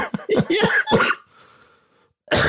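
cough and throat clearing

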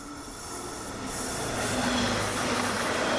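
train departing

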